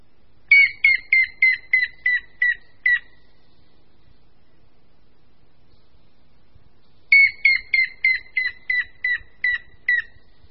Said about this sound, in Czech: Nejdříve pokřik žluny zelené. A následuje pokřik žluny šedé.